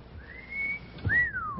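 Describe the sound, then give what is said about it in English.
A two-part wolf whistle: a rising note held briefly, then a short pause and a sweep up that glides down. Clear, with no talking. “A wolf whistle.”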